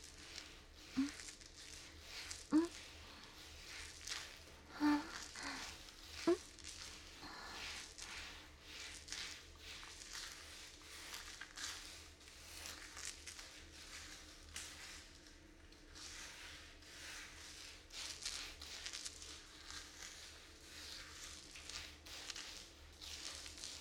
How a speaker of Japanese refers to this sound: このボディブラシ気持ちいいな。ブラシの部分が波形になってて、肌に当たってる時の感覚が心地いいよ。